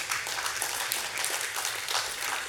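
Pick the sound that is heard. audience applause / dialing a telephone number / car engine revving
audience applause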